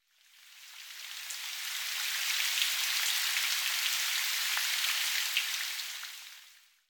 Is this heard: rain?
yes